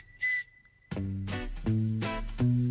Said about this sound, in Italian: Buongiorno dottore, come vede sono affetto da questo grave difetto. Questo fischio non m'abbandona e le donne ridono di me.